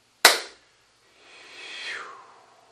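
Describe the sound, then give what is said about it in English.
A single sharp hand clap, made after a count of three, cracks out and decays quickly, followed after a short pause by a soft, airy tone that swells and then fades away. “After three, I'm going to clap.”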